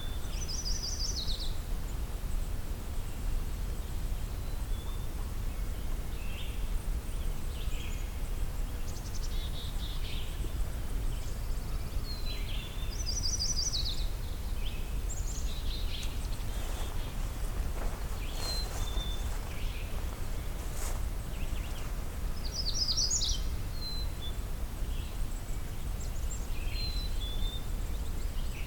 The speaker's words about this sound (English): Magnolia warbler.